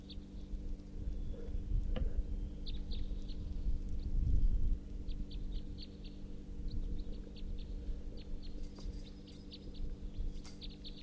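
male bird calling

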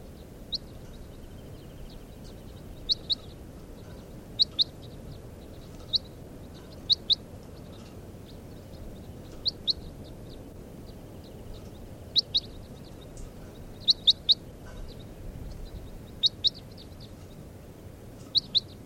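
bird calls and chirps

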